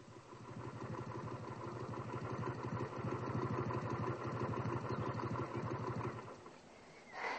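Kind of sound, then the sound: vehicle, motorcycle engine idling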